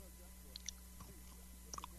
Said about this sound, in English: You're still eating the cookies, huh?